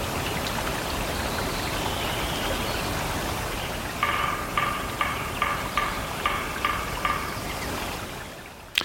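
A river rushes steadily throughout in a logged forest of the Sierra Nevada, California, recorded in 1989; midway, a run of about eight evenly spaced sharp ticks or chirps starts over the water's constant wash.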